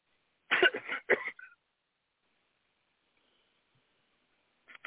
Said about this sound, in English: Sorry, I have a cough.